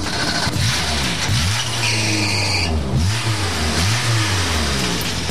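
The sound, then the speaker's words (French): A small Renault 4L car, painted in Nieder Group colours, revs its engine repeatedly, its pitch rising and falling in several throttle blips over a steady, buzzy mid-range idle, loud and alone with no talking. “Alors la 4L, c'est quelque chose de vivant, hein. C'est vraiment très vivant, faut pas hésiter à accélérer.”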